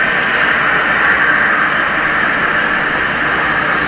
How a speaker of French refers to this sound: Ils rapportent pour la plupart la présence d'un bruit sourd vers 5 heures. Certains évoquent à un son ressemblant à une turbine de moteur.